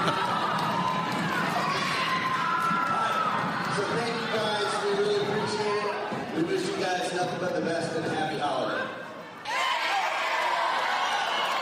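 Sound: crowd yelling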